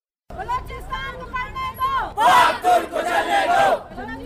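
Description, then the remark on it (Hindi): A protest crowd of students and parents chants and shouts together outside the press club in Quetta, against a possible ban on Pak-Turk International Schools and Colleges, voices rising in loud rhythmic bursts that swell after a brief lead-in of raised, sustained calls, the massed voices energetic. “यह मुजाहरा पाक तुर्क इंटरनेशनल स्कूल्स एंड कॉलेजेस की मुमकिना बंदिश के खिलाफ कोयटा में इन तालीमी इदारों के तलबा और उनके वालिदैन ने प्रेस क्लब के बाहर एहतजाज के तौर पर किया।”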